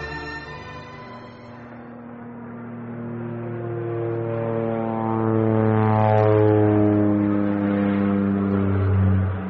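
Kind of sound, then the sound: vehicle, airplane jet engine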